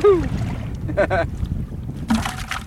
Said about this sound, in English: By the afternoon, the wind picks up. The waves rock the boat, making it difficult to throw the net.